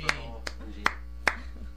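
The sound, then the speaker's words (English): Four sharp, evenly spaced claps ring out in a slow rhythm, each crisp and brief, over a steady low hum with no talking. “That was us clapping.”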